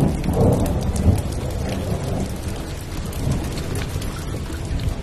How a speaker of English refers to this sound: But by late evening on February 28, 2022, after weeks and weeks of non-stop wet weather, there's something different about the sound of the rain.